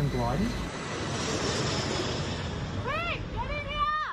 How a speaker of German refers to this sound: Weg hier, ruft eine Frau ihrem Sohn zu, als ein Flugzeug rote Löschflüssigkeit ablässt. Mehr als 100 solcher Maschinen sind im Einsatz.